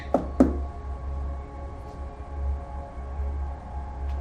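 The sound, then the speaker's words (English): Two quick, sharp knocks on a hotel room door in a boutique hotel in an upscale neighborhood, close together at the start, followed by quiet with only a steady low hum in the background. “She puts the briefcase down on the floor, then knocks.”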